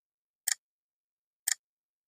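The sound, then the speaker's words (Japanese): A clock ticks twice, crisp, exactly one second apart, with silence between and around the ticks and nothing else audible. “時計が娘に快感を刻みます。”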